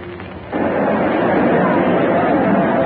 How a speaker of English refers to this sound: We are here on the central plaza. We are well off to the eastward edge. There's a kind of terrace over the crowd here. It is precisely 11:58. The crowd is enormous. There might be 10,000. There might be more. The whole square is faces.